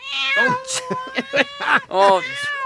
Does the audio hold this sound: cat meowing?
yes